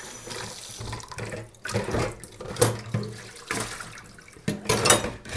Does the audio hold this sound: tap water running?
yes